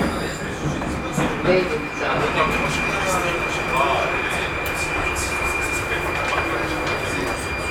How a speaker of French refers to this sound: Métro de Prague.